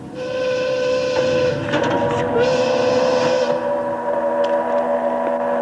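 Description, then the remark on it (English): Several loud factory steam whistles from many factories, around 30 to 40, blare together in the morning as people go to work, in a sustained, layered chord, their steady tones overlapping for several seconds with a slight shift midway, no voices present. “All the factories blowing their whistles.”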